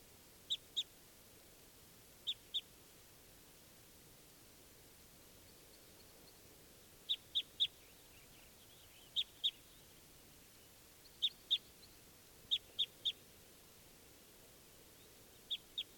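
bird, wild bird calling

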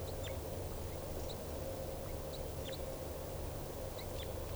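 bird, crossbill alarm calls

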